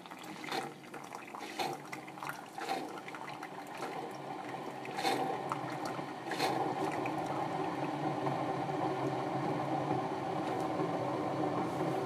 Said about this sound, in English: Alright, over to my hot water boiler. Put some hot water in this. We recently got a Keurig dispenser and it sucks because it like doesn't fill up enough water before it stops. So sometimes I usually have to do it twice.